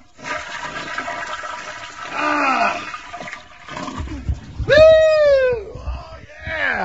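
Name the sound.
toilet flushing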